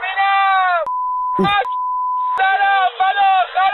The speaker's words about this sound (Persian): پیش از پخش این گزارش خاطر نشان میکنم که در این گزارش نور شدید فلاش دوربین و تعدادی فحش و الفاظ بدبد وجود دارد که بر روی آنها بیبگذاری مناسب صورت گرفته است.